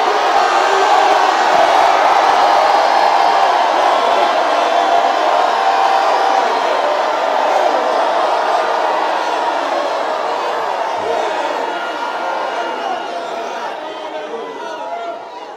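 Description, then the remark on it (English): A large crowd shouts together in a sustained, loud roar of many overlapping voices, with scattered whoops and cheers, holding steady before easing slightly toward the end. “First of all, you're shouting the wall down.”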